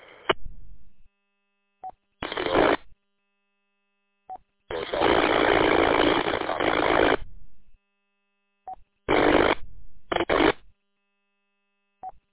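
Irregular bursts of hissy radio static from meteor or signal scatter, heard on an amateur radio during an on-air contact. Several are short, one long loud stretch lasts a few seconds, with brief faint tone blips between them and no voices.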